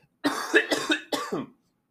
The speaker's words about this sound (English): Apologize for the cough here.